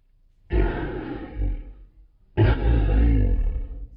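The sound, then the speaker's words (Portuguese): A person growls out two long, throaty roars in imitation of a lion, each lasting over a second with a short pause between, loud with no other voices. “Vá em frente e solte um rugido de leão.”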